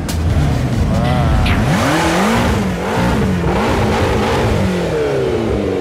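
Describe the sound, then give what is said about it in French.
A sports car engine revs loudly, its pitch surging up and dipping several times as it roars past, over a steady wash of busy street noise. “C'est quoi ça comme voiture? Ferrari. Après, qu'est-ce que tu vois? Une Aston Martin car.”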